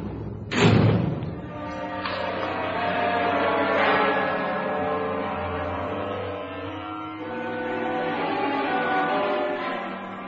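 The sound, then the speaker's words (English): A heavy steel door slams shut with one loud, booming clang, then a low metallic ring and rumble hang in the air for several seconds, slowly fading. No voices are heard. “For a while, Arthur stared at the steel door that separated him from freedom, from the world he had seen so little of.”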